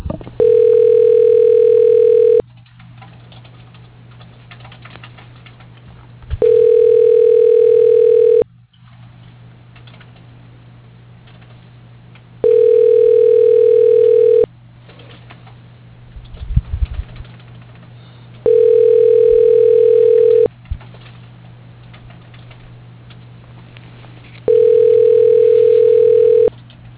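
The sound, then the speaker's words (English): A telephone ringing tone repeats five times while a call to an extension connects after an automated phone menu, each steady two-second burst separated by about four seconds of quiet line hum, with a few faint clicks midway. “For Cammy, dialing.”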